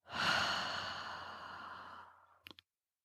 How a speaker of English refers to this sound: Three quick sniffs. And a long exhale.